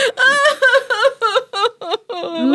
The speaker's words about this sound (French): Et il pleure. Ça pleure un robot extraterrestre? C'est peut-être une robot?